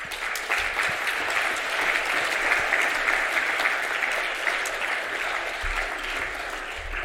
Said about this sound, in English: So let's give a warm welcome and applause